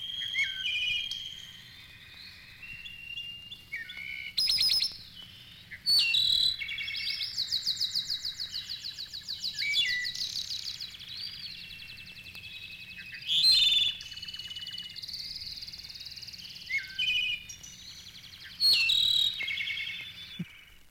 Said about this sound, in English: Last but not least, one of the most beautiful and magnificent of all songbirds, besides the enchanting English nightingale, is the Mexican clarino. His liquid-like bell notes excel the most delicately man-made music box.